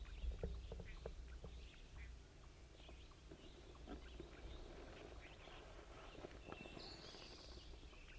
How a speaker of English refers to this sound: Actually, I believe it's the wild bird.